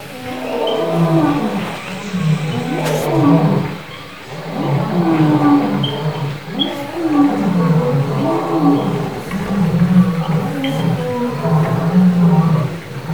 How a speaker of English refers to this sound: like almost every day, the day in Quantu begins with listening to the dhikr of the lions. We hear the roaring every morning, begins with that for a long time.